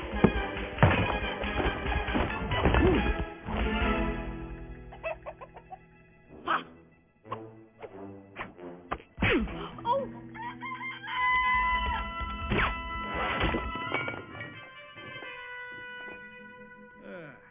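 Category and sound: bird, chicken clucking and crowing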